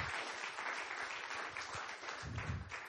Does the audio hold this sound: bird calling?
no